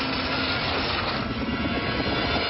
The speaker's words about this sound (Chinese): 一些公司的职员正在开会，但是由于风力的原因，巨大的直升机在空中转动。